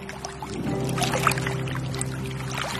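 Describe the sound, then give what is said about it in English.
A small boat moves across foggy open water on a lagoon: a steady low drone runs underneath continuous splashing and lapping against the hull, even throughout, with no voices. “But looking at the foggy water underneath our boat, out there on the lagoon, the threat seems real enough.”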